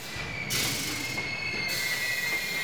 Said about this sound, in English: Suddenly, the train stopped. The conductor told everybody to get out. The railway line did not go all the way to Calcutta, but stopped in the middle of the jungle.